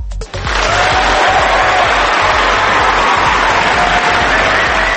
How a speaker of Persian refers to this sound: خیلی شعر قشنگی گفتین، آفرین، لطفا تشویقشون کنی. بله خیلی ممنونم، بله دوباره تشویقشون کنی چون شعر قشنگی بود واقعا.